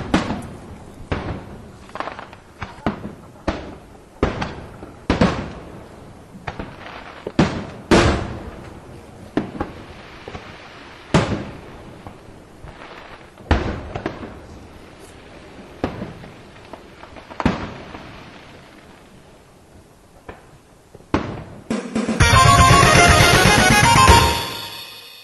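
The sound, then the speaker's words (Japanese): A rapid series of loud fireworks explosions at the Atami sea fireworks festival in Japan, booming one after another with irregular spacing and echoing out, ending in a dense crackling, sizzling burst of many small bangs. “それでは綺麗な花火をご覧ください。 聞くだけね。”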